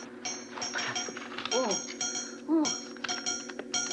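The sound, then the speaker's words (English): Morse code tapped on a cell wall by someone in the next cell, answering: a run of ringing metallic knocks in uneven short and long groupings, bright and clanging, with a brief vocal-like murmur sliding in between. “It's Morse code.”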